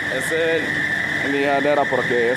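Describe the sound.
An electric sander grinds with a steady, high-pitched whine and a constant buzzing drone, while a voice murmurs indistinctly underneath throughout.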